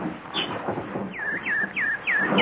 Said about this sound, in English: Hello, pretty nightingale. Don't you want any seed? No? You just want to sing. Go ahead, you beautiful thing. Sing your little heart out.